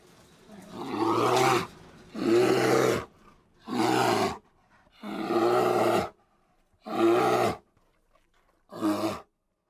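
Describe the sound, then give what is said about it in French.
A bear growls loudly in six separate rough, deep bursts, each lasting about a second, with brief silences between them, powerful with no talking. “Oui, il s'agit de l'ours.”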